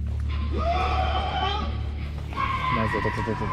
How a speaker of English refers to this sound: Yeah, there seems to be someone screaming from under the bridge, right? And at first I thought it could be a voiceover or a voice layer that someone added on the video, so it could be fake.